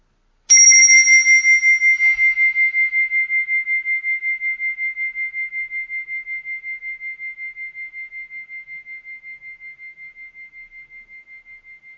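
A single mindfulness bell is struck once to begin a short mindfulness practice, its bright metallic tone ringing out clearly and then slowly decaying over about ten seconds with a gentle pulsing shimmer, heard alone without any voices.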